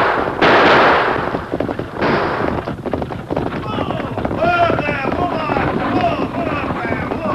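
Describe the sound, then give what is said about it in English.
Loud, sharp bursts of gunfire crack out in quick succession during an outlaw holdup of a stagecoach, mixed with rapid clattering hoofbeats of riders, while voices shout over the commotion, including a call for Tonto to use his guns. “I reckon not, unless a stray bullet hit my passenger.”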